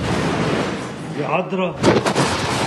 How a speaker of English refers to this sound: An explosion shatters the room, and everything goes dark.